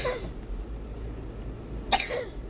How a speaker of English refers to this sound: if he's a coughing like that. I suppose I'm getting the surgery tomorrow now. It's just a cough to go with the cold, and there's nothing they can do anyway. But if it's an asthmatic cough, I might give him some Ventolin.